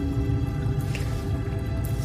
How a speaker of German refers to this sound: Als wir reingekommen sind, ja, haben wir Wasser gehört. Tatsächlich hörst du das jetzt aber auch. Also es ist so dieses ganz leichte... Aber es ist nicht still.